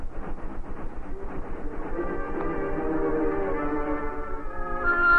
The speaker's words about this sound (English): Oh, but look, Tonto. Look at that train. Those rails to the horizon and beyond.